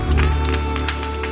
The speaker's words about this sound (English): Music is such a powerful medium. Let's give our musicians a round of applause. Thank each one of you.